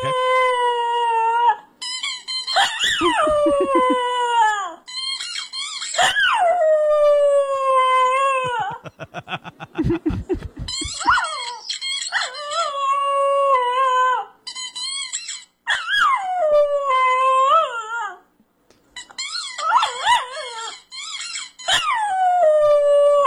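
A dog howls and whines in long, sliding, mournful cries, broken by quick bursts of sharp squeaking from a squeaky toy being chewed, loud with no talking.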